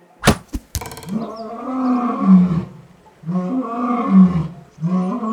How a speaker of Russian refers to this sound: Лев взвыл и скрылся в густой чаще.